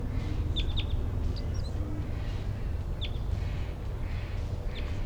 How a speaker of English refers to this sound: Real one. Wild. Wild chitter.